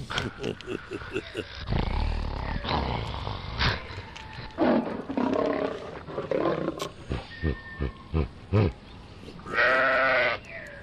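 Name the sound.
lion roaring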